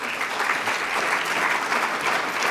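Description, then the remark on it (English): Steady applause from an audience at a chapel welcoming a guest speaker, a dense crackle of many hands clapping at an even, sustained loudness throughout, with no voices standing out above it. “Would you join me in welcoming”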